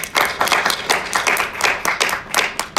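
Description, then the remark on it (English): A crowd applauds steadily, many hands clapping in a dense, continuous patter with a few sharper claps standing out, moderately loud, with no voices over it. “And I want to applaud you for that.”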